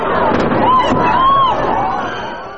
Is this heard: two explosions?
yes